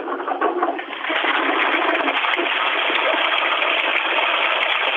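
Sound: toilet flushing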